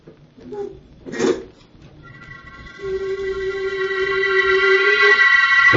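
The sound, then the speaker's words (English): A door being unlocked by a woman: a few short rattling clicks and a louder scraping clatter, then a steady, rising droning tone with layered high harmonics fills the rest. “She's unlocking it.”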